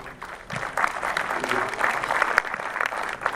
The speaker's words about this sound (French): Je remercie nos collaborateurs respectifs pour leur efficacité. Je crois qu'il faut les applaudir bien fort.